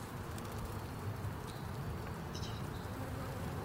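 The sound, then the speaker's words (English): A bee, held by a man and placed on a boy, buzzes steadily for a few seconds, a continuous low drone with slight wavering and a couple of brief higher whines, with no voices. “He puts the bee on him, and the bee just won't do it.”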